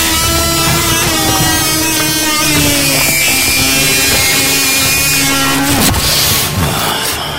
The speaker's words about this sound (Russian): Ко всем воинским подразделениям империума представлены капелланы, которых в космодесанте можно опознать по лицевой маске в виде черепа, громадной булаве, а в обычных войсках по табельной двуручной бензопиле.